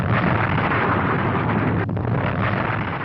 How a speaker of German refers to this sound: In der Tat rutschte die aufgewölbte Masse ein Viertel des Berges, die gesamte Nordseite, am Morgen dieses 18. Mai einfach ab. Und damit war der Weg für die angestaute Magmablase frei. Der Druck entlädt sich in einer gewaltigen Explosion.